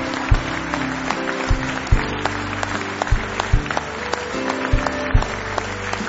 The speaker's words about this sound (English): Let's stand to our feet this morning. Why don't we just begin the service by giving the Lord a good hand clap of praise in the house of the Lord today.